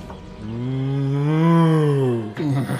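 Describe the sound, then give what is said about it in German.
A cow gives one long, loud moo, rising and then falling in pitch over about two seconds, followed by a brief grunting trail-off. “Zweitens, schön, dass ihr eine Kuh mitgebracht habt.”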